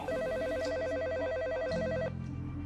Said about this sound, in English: Immediately, the phone rang and a friend of mine was screaming at me on the other end.